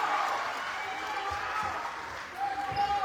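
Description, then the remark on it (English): A basketball game crowd cheers loudly in a steady, dense roar that holds for the whole stretch, with a few brief high squeaks rising out of it near the end. “Crowd gets really loud, so I'm trying to be louder than it.”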